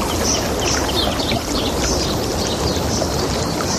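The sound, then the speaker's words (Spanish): Steady rushing sea waves fill the scene without pause, while small birds chirp faintly and intermittently above the water noise; no one speaks. “Pues imagínate que en lugar de esto, de las olas del mar o los pajaritos, es esto otro lo que estás escuchando.”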